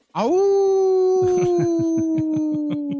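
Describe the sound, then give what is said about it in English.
A dog lets out a long, loud, sustained howl that holds a steady pitch, while a run of short rhythmic yips or yelps pulses underneath it. “Oh, is that your wolf pack? That's the wolf pack, right?”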